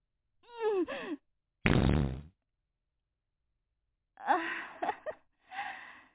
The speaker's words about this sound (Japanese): ちょっとお腹すっきりした。 変にごまかして気を使わせちゃうよりは、普通におならしちゃう方がいいわよね。